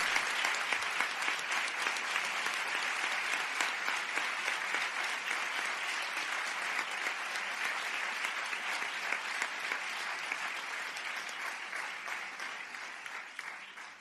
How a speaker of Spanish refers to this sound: El aplauso para todos ellos.